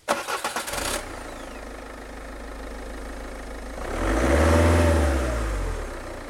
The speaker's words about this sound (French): Un bruit de moteur coupe court au débat. L'homme n'a pas dû aller très loin. Il revient au volant de sa voiture, un gros break qui gare au plus près de la grange en marche arrière.